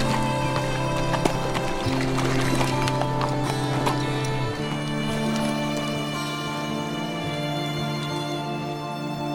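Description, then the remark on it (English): Horse hooves clip-clop in a steady trotting rhythm over a sustained musical backdrop as a rider turns his horse and rides away, the hoofbeats growing slightly fainter. “Clayton turned his horse.”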